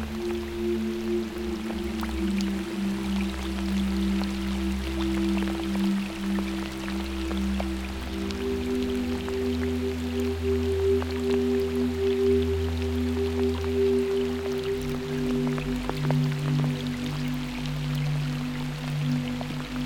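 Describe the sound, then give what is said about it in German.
Scattered raindrops patter steadily onto a water surface, soft, over a continuous low humming drone that holds through the whole stretch without any talking. “Mit jedem Tropfen, der deine Wasseroberfläche berührt, wirst du wieder mehr zu dem, der du wirklich bist.”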